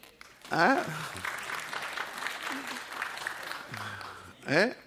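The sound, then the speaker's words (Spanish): An audience applauds steadily for several seconds to show agreement on how a toy plane is put together, a dense patter of clapping framed by rising, sweeping shouts or whoops at the start and again at the end. “A ver si usted cree que va así, aplauda.”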